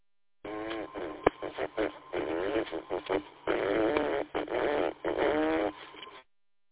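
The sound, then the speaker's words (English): Buzzy, sputtering fart noises, blown with the mouth by someone keying up on a radio repeater in the evening, come through a tinny radio channel in a run of irregular bursts over several seconds, loud with no talking. “We got an illegitimate child out there blowing farts in the radio this evening.”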